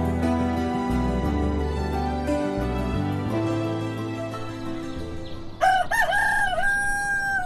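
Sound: rooster crowing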